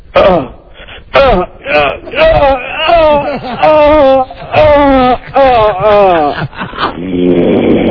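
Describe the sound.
A person imitates snoring with a string of voiced, wavering groans and snorts, rising and falling in pitch in loud repeated bursts, ending in a breathy rasp.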